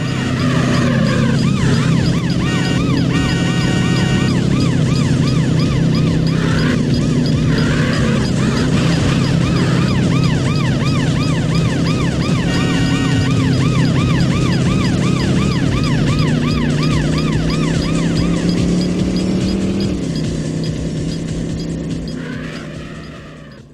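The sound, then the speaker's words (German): A wailing police siren rises and falls continuously over a loud, steady roar of racing car engines as a luxury sports car races through a realistic landscape with the police in pursuit in a racing video game; the chase sound stays intense throughout, no talking. “Du setzt dich in diesen Luxussportwagen, du drückst das Gaspedal durch, du rast durch eine realistische Landschaft, die Polizei im Nacken und dein Konkurrent an deiner Seite und dann guckt er, wer sich am besten durch den Verkehr schlägt.”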